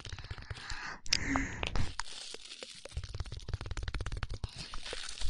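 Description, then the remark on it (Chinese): Long-used aluminum foil, used as an ASMR trigger tool, is crinkled and crumpled in a steady stream of sharp, crackly bursts, with a brief smoother swish near the start, fairly soft overall and with no talking. “我发现像这个做触发音的工具啊，都是老的好用，像这锡纸都是用的久了就会好用。”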